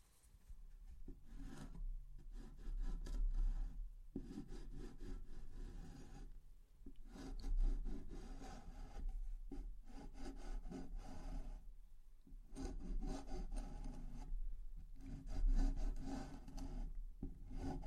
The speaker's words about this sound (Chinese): 把这里打磨一下。